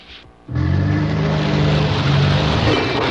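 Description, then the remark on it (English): A car brakes hard: after a brief quiet moment, a sudden loud, sustained grinding roar of tires and engine holds steady for a few seconds, without any voices. “Oops, sounds like you either need new glasses or new brakes.”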